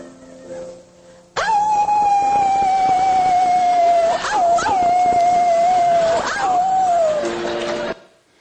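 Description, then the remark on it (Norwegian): A woman imitates a wolf, letting out one long, loud howl on a steady high pitch that wavers and briefly breaks twice before trailing off after several seconds, with no talking. “Hun skal nemlig ule som en ulv.”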